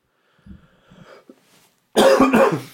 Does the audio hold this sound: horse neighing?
no